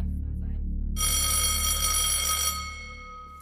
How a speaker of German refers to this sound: Ja, Hallöchen, da hört ihr die Klingel, die Sommerferien sind vorbei und damit auch unsere Sommerpause 2025.